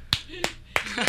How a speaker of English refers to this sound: I'm the only one clapping again. I'm the only one here though.